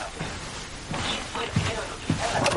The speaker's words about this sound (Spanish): Dylan abre la puerta.